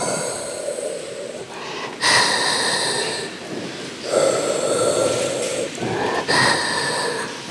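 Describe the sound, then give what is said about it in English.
In a hospital, a respirator breathes for a man in a coma: steady, rhythmic mechanical breathing, loud, airy whooshes alternating in slow cycles roughly every two seconds, with no voices. “Instead, what we have is this, like, steady, rhythmic, mechanical breathing.”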